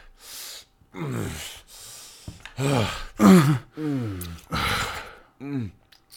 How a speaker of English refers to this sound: What was that? I couldn't hear you over your whimpers.